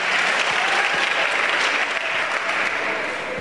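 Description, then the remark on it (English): Steady, loud applause from an audience clapping for themselves, a dense wash of many hands clapping at once that holds evenly for a few seconds without any voices on top. “Clap for yourselves.”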